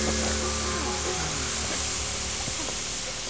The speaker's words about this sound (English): Hand me the garden hose. Okay. It's right behind you. Here. Okay, quick, now stand back. Look out for the splashes.